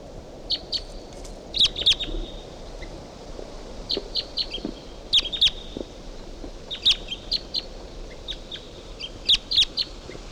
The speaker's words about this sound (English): It's recording 7:51 a.m. This is bird 358, and there's a wild bird coming in. 358. Type 2 wild bird.